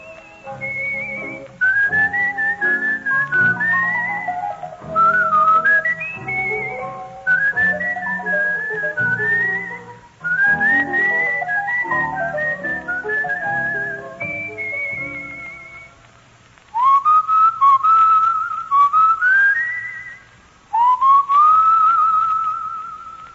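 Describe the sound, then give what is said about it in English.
A person whistles a bright, lilting melody with sliding pitches, fairly loud over a soft instrumental backing, pausing briefly before resuming with a couple of longer held notes. “Oh, you gotta love that whistling.”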